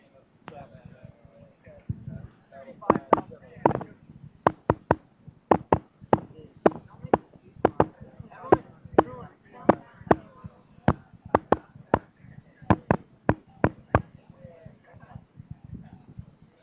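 A telegraph key taps out the message "What hath God wrought" over a wire to a partner in dozens of sharp, crisp clicks, grouped in uneven short and long bursts, over a low murmur from an awed crowd looking on.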